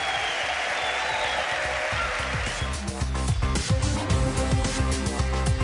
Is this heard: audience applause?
yes